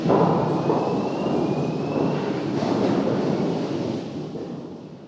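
A deep, continuous industrial rumble from a huge rotating debarking drum at a factory in Weisenbach, with roughly 2-metre log pieces tumbling and knocking against each other inside as their bark is stripped off, loud and steady before easing off slightly at the end.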